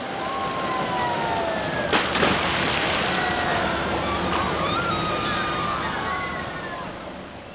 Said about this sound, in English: Look, there's a water park.